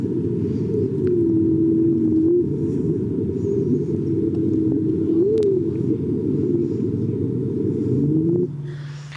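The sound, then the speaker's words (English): A whale call sped up tenfold: a dense, low droning rumble with thin wavering tonal glides and swoops riding on top, loud and continuous for about eight seconds before dropping off. “So this is what a whale sounds like, sped up 10 times.”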